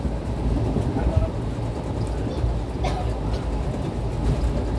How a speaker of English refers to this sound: And it's the south of Mumbai journey, as you well know. And it's the long time dream of taking a train. We get lots of vibrations, lots of air conditioning sounds, because it's an air conditioned car.